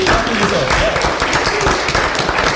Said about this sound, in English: So great to have everyone here today, including a wonderful community that has come out to be a part of this discussion with us. Claps for the community!